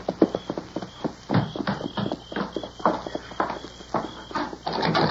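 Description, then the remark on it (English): Horses' hooves clip-clop in a steady, unhurried rhythm, many sharp hoofbeats at a moderate level, as the horses are led at a walk, taken around and back, with no voices. “You take the horses around and back.”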